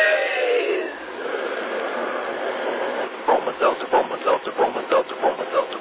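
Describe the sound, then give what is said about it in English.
A steam train sound effect: a long hiss gives way to a steady run of rhythmic chugging puffs, fairly loud, with a muffled, thin old-radio quality. “But when it comes to common sick headaches, take a tip from our educated train.”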